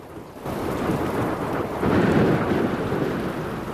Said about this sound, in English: On board the Eagle as she flies through the teeming rain, her feathers now slick with water.